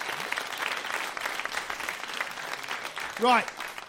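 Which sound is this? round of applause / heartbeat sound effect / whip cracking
round of applause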